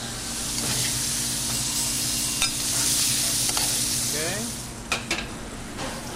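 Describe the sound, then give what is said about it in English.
Steady crackling sizzle of flour-coated frog legs frying in hot oil, a bright continuous hiss with scattered pops and a few sharper clinks toward the end, and a low hum underneath. “all the moisture has been cooked out of the flour and the frog legs, and that will mean that they're crispy and they're done”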